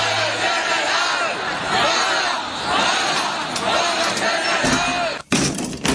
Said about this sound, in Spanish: Pero hay gente en la calle y grita.